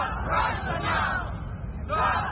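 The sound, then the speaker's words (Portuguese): A dense crowd of protesters in the US shouting against Russia's invasion of Ukraine while marching through Times Square in New York toward Russia's mission, many voices merging into a loud, steady roar that swells in waves, with no single speaker standing out. “E aqui nos Estados Unidos, cidadãos americanos saíram às ruas ontem, horas depois da Rússia atacar a Ucrânia, gritando contra a invasão.”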